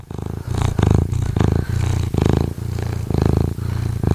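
A cat purrs loudly, a steady rumbling that swells and fades in regular cycles, about eight breaths' worth, with no voices or other sounds around it.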